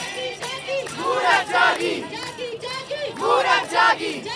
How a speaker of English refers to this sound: As they gather, they clap to music. They chant, "Women have woken up."